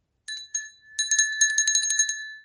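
A small clay bell gives two separate rings, then jingles rapidly and steadily for over a second, its bright tone fairly loud with no voices.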